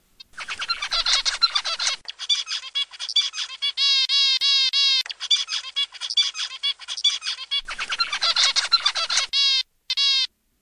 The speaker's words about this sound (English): Just to give you an idea of what it sounds like, we have a recording of the zebra finch. Let's listen.